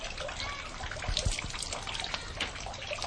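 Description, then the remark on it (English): Water spat from the mouth splatters and trickles into a stone trough beside a basin at a shrine, a short burst of splashing over a steady running-water hiss, with no voices. “Spit the water out into the trough beside the basin.”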